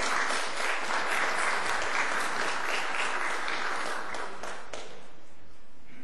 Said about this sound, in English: Okay. And all the mothers, would you stand with them? Now let's give them a round of applause.